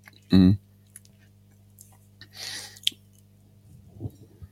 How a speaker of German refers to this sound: Ich hatte das Gefühl, da kommt noch was, aber stattdessen höre ich nur eine Wasserflasche. trockener Mund.